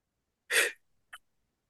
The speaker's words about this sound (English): So we're doing the Spider-Man fingers and we're going to take a deep breath in. Here we go.